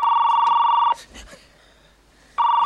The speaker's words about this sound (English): It's the phone.